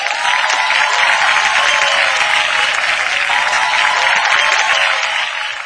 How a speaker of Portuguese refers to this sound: O sétimo notável, aí sim, foi aplaudido de pé, muito extensivos aplausos, e foi surpresa mesmo, que olha, o reconhecimento foi momentâneo.